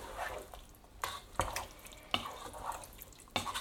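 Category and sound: household object, water poured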